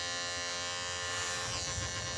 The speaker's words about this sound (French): Et dans cette configuration-là, tout à fait idyllique, donc, on a notre fameuse voiture qui arrive.